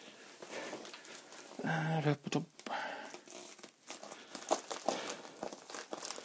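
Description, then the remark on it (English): Parcel wrapping crackles and crinkles as scissors cut through it, a steady scratchy rustle with a few sharper snips and a brief vocal sound partway through. The parcel is very well wrapped and sealed, and a sticker is cut off. “This is really well wrapped up. And I've just cut the...”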